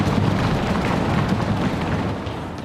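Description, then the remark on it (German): A crowd of voices imitates rock thundering, making a loud, steady rumbling roar that fills the whole moment without a break and fades slightly at the end. “Und dann beginnt plötzlich der Fels zu donnern. Lasst mal den Fels donnern!”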